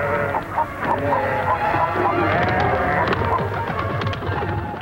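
A flock of chickens clucks steadily, with overlapping calls and the rustle of pigeons fluttering in to take their places in the rafters, forming a dense, continuous barnyard bustle with no talking.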